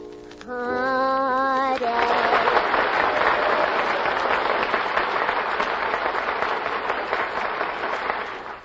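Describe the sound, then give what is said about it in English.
A short musical flourish opens, then a studio audience breaks into steady, loud applause for a contestant to show its favorite, holding at an even level for several seconds before easing slightly near the end. “Now, as I put my hand over each contestant's head, the studio audience will applaud, indicating their favorites.”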